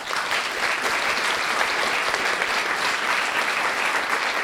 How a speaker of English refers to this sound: And we also want to thank everyone in our live audience for participating in the program. Give yourselves a round of applause.